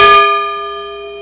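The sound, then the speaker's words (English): A Burmese gong from the Chin state of Burma is struck once, a sharp metallic hit that blooms into a bright, sustained shimmer of ringing tones, fading only slightly as it hangs in the air with no voices. “Burmese gong from the Chin state.”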